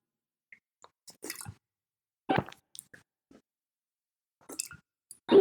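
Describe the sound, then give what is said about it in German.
Exaggerated, loud gulping of water right up at the microphone, a person imitating someone's very loud way of drinking: a series of wet, squishy swallows and clicks spaced irregularly over a few seconds, with no talking. “Der schluckt unglaublich laut.”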